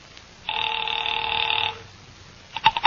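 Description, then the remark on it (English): A telephone rings once after Gordon Ayers' number is dialed on a dial phone, a steady electronic tone lasting just over a second, followed by a pause and a few short clicking bursts, like the line being picked up at Pacific Seaboard Fidelity. No one speaks. “Mallard left and I took the slip of paper he had given me with Ayers' phone number on it, sat down by Amici's pet aversion and doodled with the dial.”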